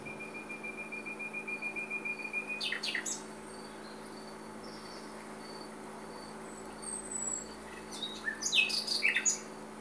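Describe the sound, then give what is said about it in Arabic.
Birds chirp and call outdoors in the morning at sunrise as they wake and leave their nests to look for food, with a long thin whistle, a burst of sharp chirps midway, and a busier flurry of calls near the end, over a steady hum of insects. “عندما تشرق الشمس صباحا ويظهر النهار، تصحو الطيور وتخرج من أعشاشها تبحث عن طعامها، وهي تغرد أغنية الصباح.”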